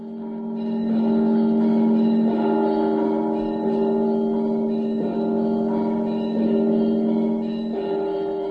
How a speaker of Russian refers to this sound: был момент, когда я вдруг осознала присутствие колокольного звона, людей вокруг, все происходило в абсолютной тишине.